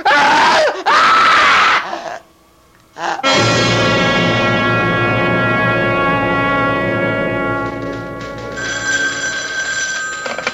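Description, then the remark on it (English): A woman lets out a loud, piercing scream for about two seconds, then after a brief silence a telephone starts ringing insistently and keeps ringing. “Stay away from me, or I'll scream.”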